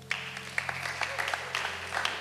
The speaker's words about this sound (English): I'm married for 35 years now. Clap for me.